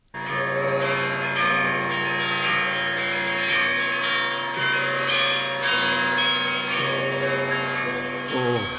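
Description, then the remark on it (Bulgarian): Bells peal joyfully and continuously, overlapping strikes ringing out loud with a rich, shimmering resonance that fills the whole stretch without pause. “Камбаните на цялата страна, нека да зазвонят с най-хубавата си песен.”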